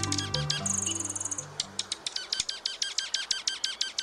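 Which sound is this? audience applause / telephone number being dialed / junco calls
junco calls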